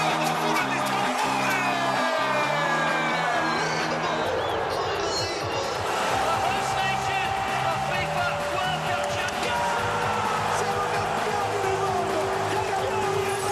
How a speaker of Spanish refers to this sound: El grito grito de gol en diferentes idiomas.